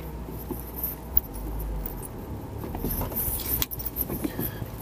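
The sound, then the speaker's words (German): A car's low engine rumble with a sharp thump and a burst of rattling, clattering jolts as it lurches up over a sidewalk curb into a driveway, with no one talking. “Den Bürgersteig sollte man auch in dem ersten Gang, nicht im dritten hoch.”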